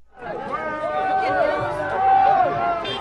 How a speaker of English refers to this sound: Crowds of people with picnics are lining the roadsides in the Jura Mountains to get a glimpse of riders whiz past in today's seventh stage of the Tour de France.